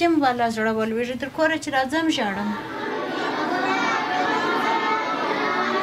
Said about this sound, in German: Eine Koranschule für Mädchen am Stadtrand von Kandahar. Rund 400 Schülerinnen lernen hier bis zu 5 Stunden am Tag. In verschiedenen Klassenräumen rezitieren sie die Suren des Korans.